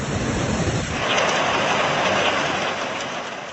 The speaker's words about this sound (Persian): خروش سیلی که در آستانه سال نو میلادی زندگی ده ها هزار فیلیپینی رو در هم پیچید.